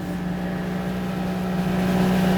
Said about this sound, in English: The outboard engine of our small boat kicked up the noise of our last sonic stumper. As we began motoring out towards Huzzy Sound,